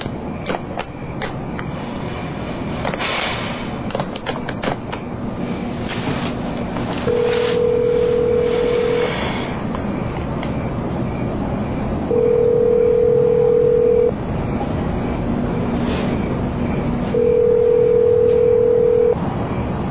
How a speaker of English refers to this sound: I call over there. She better answer the phone.